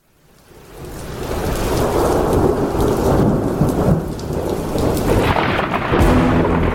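Deep thunder rumbles steadily over heavy, hissing rain, swelling in from quiet within the first second and staying loud throughout, with no voices.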